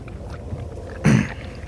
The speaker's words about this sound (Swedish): Hör hur bilen fortsätter rulla iväg.